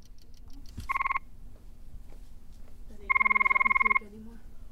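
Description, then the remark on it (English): Two frog mating calls played back in an empty arena: a short burst of rapid, buzzy trilling, then a longer pulsed trill, close to the population's average call, a couple of seconds later, both fairly loud over a low steady hum and faint murmuring. “So there are currently two calls playing.”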